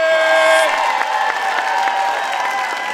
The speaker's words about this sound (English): It was an incredible night at a place called Knuckleheads, which has this super cool honky-tonk vibe. The atmosphere was electric. I mean, just check out the crowd.